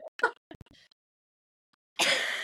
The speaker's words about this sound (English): He ends up coughing.